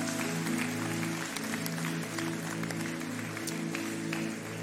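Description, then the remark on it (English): A church audience applauds for Jesus at a morning service with steady, dense clapping for several seconds, a sustained low organ or keyboard chord holding underneath the whole time. “Can we clap for Jesus this morning?”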